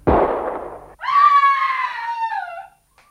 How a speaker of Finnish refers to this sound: Varjelkoon, ammuitte naisen.